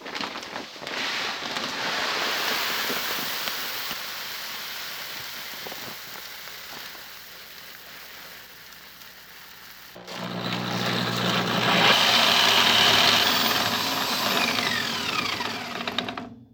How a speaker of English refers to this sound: Right now, we're going to start with milling the grain.